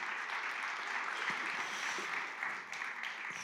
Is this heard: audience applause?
yes